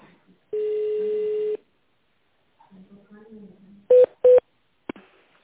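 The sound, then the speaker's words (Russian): A steady electronic tone holds for about a second, then after a faint murmur of voice, two short, loud telephone keypad beeps sound in quick succession as an extension number is dialed at a company phone line's automated greeting, followed by a brief click. “Наберите внутренний номер абонента или дождитесь ответа секретаря.”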